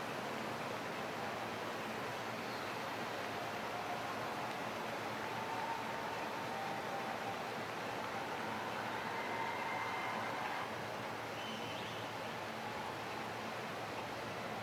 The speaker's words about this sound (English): a storm blew in and torrential rainfall covered the track in sheets of water